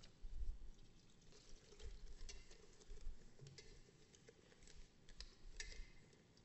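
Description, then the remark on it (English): Water is poured into a container, a faint, uneven trickle with light patters and small ticks running for several seconds. No one speaks. “So let's say this water is the divine nature of Christ.”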